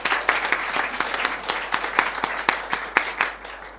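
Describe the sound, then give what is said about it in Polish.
An audience applauds those attending for the first time, breaking into steady applause, many hands clapping in a dense, crackling wash with sharper individual claps standing out, sustained at an even level before easing slightly at the end. “Brawa dla tych wszystkich, którzy zdarza się pierwszy raz.”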